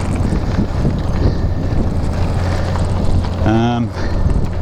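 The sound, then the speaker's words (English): Road trains rumble past on a remote road, a steady heavy low roar with wind buffeting the microphone, and a brief tonal, horn-like engine whine rising near the end. “Still a few road trains around, as you can hear, but not too many.”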